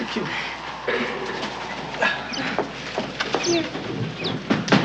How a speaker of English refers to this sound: Calm down. You're frightening the bird.